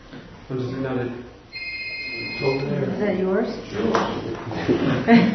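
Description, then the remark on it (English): A phone rings with a steady electronic tone for about a second, partly under people talking. The ring is moderately loud against continuous conversation. “We got a phone ringing.”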